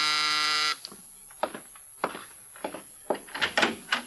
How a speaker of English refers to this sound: Now Mike is in his apartment when the door buzzer sounds.